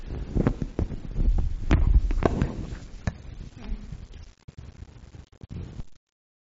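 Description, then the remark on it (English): Heavy thumps and rustling bumps from a microphone being handled and swapped in a church, several irregular knocks over a few seconds, then a quieter stretch of faint handling noise before it cuts off. “I'm a bit echoey with this one, I'm going to swap mics.”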